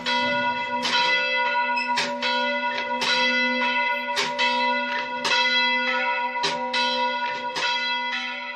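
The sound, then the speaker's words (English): Church bells ring out loudly from the damaged tower of a church in the town of Karakosh, Iraq, in a steady peal, overlapping strikes every second or so with long, rich ringing tones that never fade to silence. No voices are present. “October, the town of Karakosh to the south of the city was recaptured, and a handful of townspeople returned home and erected a makeshift cross on the roof of their church, and church bells rang out from the damaged tower for the first time in years.”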